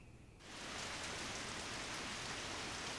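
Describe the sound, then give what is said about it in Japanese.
Steady rain, after the previous day's snow turned to rain without settling, falls in a dense, even hiss that fades in over the first half second and then holds constant, moderately loud, with no voices. “昨日の雪は積もらずに、そのまま雨になった。”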